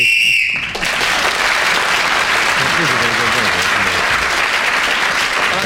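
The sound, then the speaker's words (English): A loud, steady whistle blast, blown to end the round while Clement Freud was speaking, sounds for under a second, then cuts off as a burst of dense, sustained applause takes over and continues to the end. “Clement Freud was speaking when the whistle went, so he gained the extra point.”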